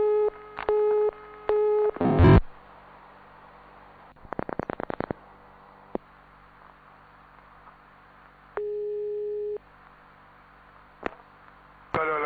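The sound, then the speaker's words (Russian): A telephone busy tone after a phone connection dropped beeps in short, evenly spaced pulses, followed by a burst of line noise, a rapid string of clicks and one longer steady tone. The sound is clear, with no voices. “Прошу прощения, это как раз доказывает то, что у нас действительно все честно, телефонная связь прервалась, но мы созвонились еще раз.”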